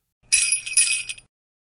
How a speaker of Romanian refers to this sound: Spune numele copilului după ce auzi clopoței săniei.